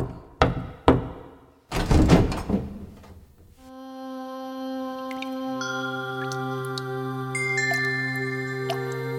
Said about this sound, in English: Pratikami, Duryodhana's attendant, entered the inner quarters of the palace. He walked up to Draupadi's room and knocked on the door.